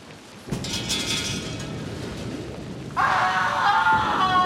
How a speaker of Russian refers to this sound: И тут разразилась гроза.